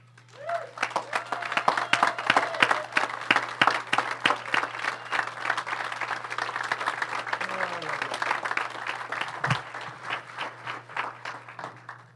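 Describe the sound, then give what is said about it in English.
Church audience applause welcoming a guest speaker: many hands clapping in a dense, steady patter that holds at a fairly even loudness for about twelve seconds, with faint voices mixed in beneath it. “You guys can do better applause than that, can't you?”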